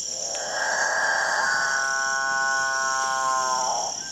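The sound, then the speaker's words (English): A male capuchinbird, a South American cotinga, in the Guyanan jungle gives one long, loud, drawn-out mooing call in the dawn chorus, like a distant cow or motor drone, swelling and then fading over a few seconds against a steady high insect hum. “It's the dawn chorus of male capuchin birds, one of the most bizarre members of one of the most bizarre bird families in South America, the Catingas.”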